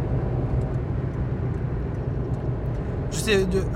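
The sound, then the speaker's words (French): Steady, loud low rumble of a car engine and road noise at highway speed, heard from inside the vehicle as the driver pushes it to about 140 to overtake a truck, with a brief higher-pitched whine near the end. “Et puis, alors attendez, je vais pousser un peu la voiture là. Vous devez bien entendre mon moteur là.”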